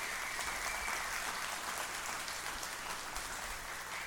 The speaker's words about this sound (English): Give them an applause for being great-grandmothers.